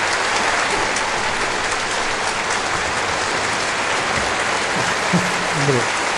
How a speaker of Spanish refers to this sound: Quizás ahí no era el momento del aplauso, ¿verdad? Bueno, pero siempre se agradece.